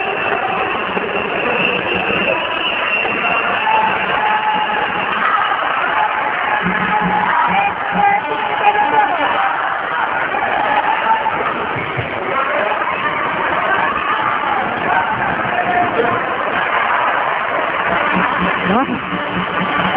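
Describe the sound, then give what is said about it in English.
A sports crowd cheers steadily throughout, urging their players on, a loud, continuous wash of voices with scattered shouts rising from the din, sustained without pause for the whole stretch. “The crowd trying to urge their players on.”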